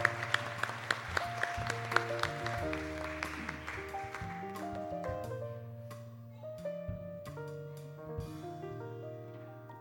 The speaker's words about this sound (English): So how about a round of applause for the amazing volunteers for the summer activities?